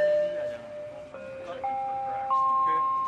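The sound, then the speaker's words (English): A Canada Line light rail train chime in Vancouver sounds in sustained electronic tones that step upward in pitch, ringing clearly over the steady murmur of voices and bustle on a packed platform at 7 in the morning. “This new light rail system was built just for the Olympics, and it's been busy since it opened in December.”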